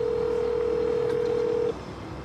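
A steady, unbroken telephone dial tone hums for nearly two seconds before cutting off abruptly, leaving only faint background hiss. No one speaks.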